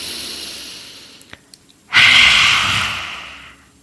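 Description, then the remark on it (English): A forceful, breathy exhale bursts out, a loud open-mouthed rush of air from a person doing lion's breath, a pranayama breathing exercise, the sound coming deep from the belly and tapering off over about two seconds, preceded by a soft inhale through the nose and a few faint clicks. “You're going to breathe normally for a few moments and then can repeat that lion's breath a few more times.”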